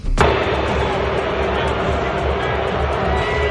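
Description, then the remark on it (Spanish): A large stadium crowd at the Super Bowl final boos and whistles at a singer in a dense, continuous roar that starts abruptly after a brief sharp hit and stays loud and steady, with a sustained low droning tone running underneath. “Ha recibido con algunos abucheos, con pitidos que han provocado miradas de desconcierto”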